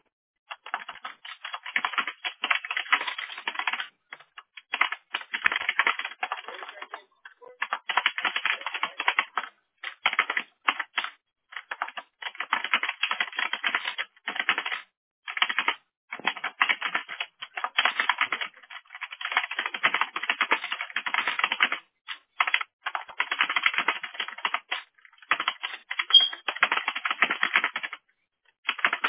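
Continuous typing on a computer keyboard with rapid clicking keystrokes in bursts separated by short pauses, fairly loud, with no talking.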